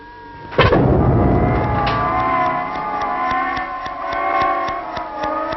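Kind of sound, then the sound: sound effect, explosion sound effect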